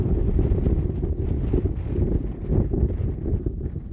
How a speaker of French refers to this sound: En ce début d'automne en Sibérie, la toute première fine couche de neige se mêle au vert des sapins et aux feuilles orangées des bouleaux. Les flaques d'eau dégèlent encore en journée, mais le vent glacé souffle déjà très fort.